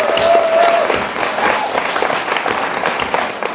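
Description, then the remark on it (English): A crowd at an awards event breaks into sustained applause for everyone attending, dense overlapping claps holding steady and fairly loud throughout, with a brief whistle cutting through near the start. “So a round of applause to all of you for being here today.”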